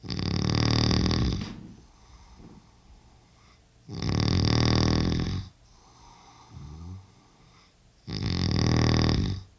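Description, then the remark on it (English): A man, the speaker's father, snores loudly in his bedroom at night: three long, rasping snores at a steady rhythm, with quieter breathing in the pauses between them. “My father's snoring is only one of the many aspects of my parents' long and most of the time happy marriage that I will probably never understand.”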